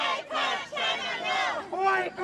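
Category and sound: crowd, protest crowd shouting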